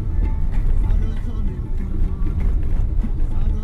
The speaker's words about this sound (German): Im Auto läuft das Radio.